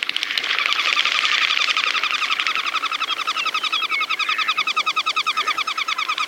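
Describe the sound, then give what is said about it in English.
Goldeneye ducks' wings whistle as they fly low over water, a steady, rapid, pulsing high whistle that throbs rhythmically for several seconds with no voices. “On a still winter afternoon, walking the shore of Puget or Long Island Sound, you'll hear them coming low across the water. Golden eyes, also known as whistlers, their wings sibilant”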